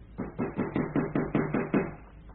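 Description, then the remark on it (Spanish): In a radio drama, Calimán pounds on a door in a fast, steady run of about nine heavy, dull thuds. Each blow is evenly spaced and fairly loud, with no voices. “Vamos, dígale algo, o terminará por echar abajo la puerta.”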